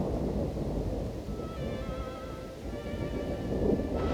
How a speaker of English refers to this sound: Lightning cracks across a dark sky, followed by a loud clap of thunder that rolls across the land. The rain hasn't started yet, but it's clear that this is going to be a storm for the ages.